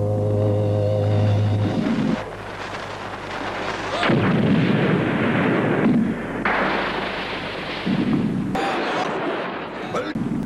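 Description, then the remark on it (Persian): Heavy cannon blasts boom out one after another, each a deep, loud thump with a rumbling tail, over a low steady drone and some indistinct background voices. “عالی بود، حالا یه توپ دیگه.”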